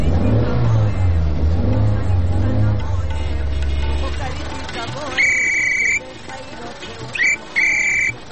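A car, being started at the roadside, rumbles and revs with a deep, throbbing drone for several seconds, then eases off as a few loud, high-pitched electronic beeps sound in short bursts.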